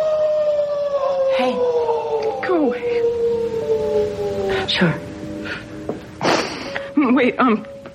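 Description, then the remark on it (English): A person lets out a long, drawn-out wolf-like howl that slowly slides downward in pitch, fairly loud, with short vocal bursts and noises breaking in toward the end. “I'm gonna howl today.”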